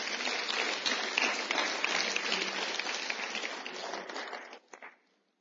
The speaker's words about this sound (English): Now, give the Lord a big hand.